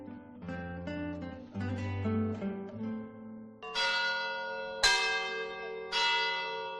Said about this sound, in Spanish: La más grande de todas es la campana Santa Águeda, ¿no? Que, con un sonido grave interesantísimo, y cualquiera de las otras con una historia muy bonita.